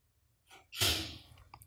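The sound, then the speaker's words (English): A single sneeze: a short breathy intake, then a sudden, sharp, hissing burst that trails off quickly into quiet. “Bless you.”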